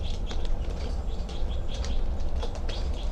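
A small female bird lands on another bird's wire cage, with light scratchy taps and soft high chirps scattered over a steady low rumble, no voices present.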